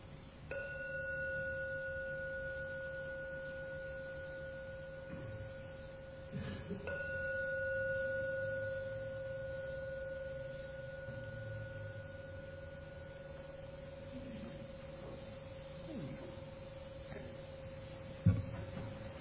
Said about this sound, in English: Going to ring the gong 3 times. Please see if you can wait until the 3rd ringing of the gong fades away, and then come out for your meditation.